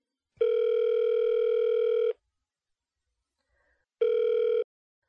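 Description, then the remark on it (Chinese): A steady electronic phone ringback tone of a call being placed to the caller's husband sounds twice, first a long buzzing burst, then after a pause a shorter one, loud and clear with no voices. “现在我要给我老公打电话了哟”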